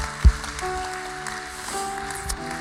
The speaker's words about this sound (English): Come on, if you're thankful, somebody give Jesus a hand clap of praise in this room today.